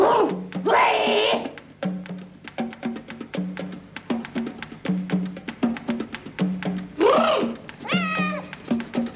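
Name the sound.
cat meowing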